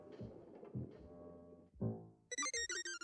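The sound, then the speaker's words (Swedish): A telephone rings in rapid, regular electronic bursts near the end, loud, as Skalman calls lille Skutt to warn him. Before it come a few short, voice-like murmurs. “Han ringer genast till lille Skutt och varnar.”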